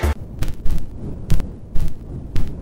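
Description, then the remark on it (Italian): Loud record scratches, about six sharp noisy swipes at an uneven rhythm, over a steady bed of vinyl crackle and hiss with a low rumbling undertone; no voices. “vai allora con lo scratch. Vai. Vado. Sentiamo come ci sta qua il fruscio in questo genere musicale.”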